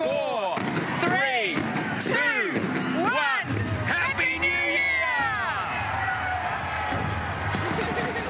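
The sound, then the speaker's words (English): A large crowd cheers and whoops at the New Year 2010 countdown and fireworks at Sydney Opera House in Australia, the fireworks booming repeatedly in quick succession at first and then giving way to a sustained roar of celebration. “That's the countdown and fireworks at Sydney Opera House in Australia, one of the first cities to start 2010.”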